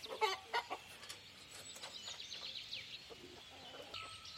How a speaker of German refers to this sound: Das sind die Pfauen. Haben Sie gehört gerade?